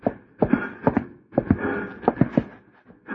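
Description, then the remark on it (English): Horse hooves clop along in a steady, uneven rhythm of sharp thuds, moderately loud, with no voices over them, as riders approach, one of them Jesse James on a black horse. “That's James on the black horse, see?”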